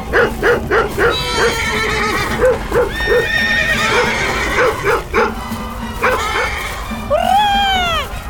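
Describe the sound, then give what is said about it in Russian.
Several horses, frightened by a barking dog, whinny and neigh loudly, their shrill calls overlapping, while rapid rhythmic hoofbeats pound underneath and carry on as the animals scatter and gallop off in all directions. “вон там лошади, видишь?”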